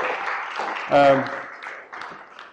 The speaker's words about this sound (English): You can ride it off if you like now and grab a seat and give a round of applause.